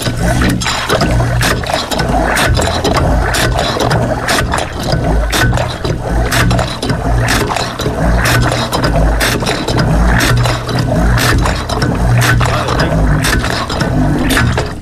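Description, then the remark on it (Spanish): An old hand water pump being primed by pouring water by hand onto its top from the back, with continuous splashing water and repeated metallic clanks and scrapes in a steady rhythm. No one speaks. “Y si ves por la parte de atrás, voy a intentar cebarla. Por la parte de atrás verás que tienes que echarle agua arriba. ¿Y con qué le echamos? Con las manos.”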